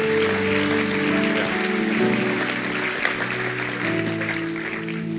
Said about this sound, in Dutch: We willen de mensen een applaus geven die hebben gezegd, Jezus, voor u.